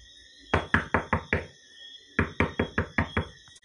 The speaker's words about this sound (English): And at that thought, a knock came on the door.